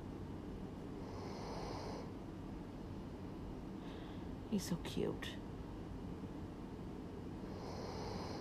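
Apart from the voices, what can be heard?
dog snoring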